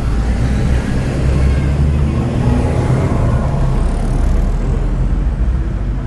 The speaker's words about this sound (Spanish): Estamos esperando que pasen los autos.